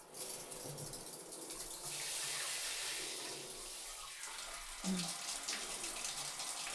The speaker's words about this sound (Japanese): はい、まずはシャワーをかけていくから、目に水が入らないようしっかりつぶっててね。じゃあ頭の方へシャワー失礼します。